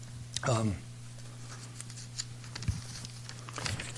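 Paper rustles and is handled briefly, then set down with a couple of soft taps over a steady low hum, put in place so it will not fall on the ground; a short vocal sound comes near the start.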